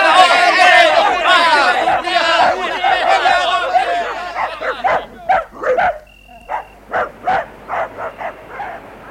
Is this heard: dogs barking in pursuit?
yes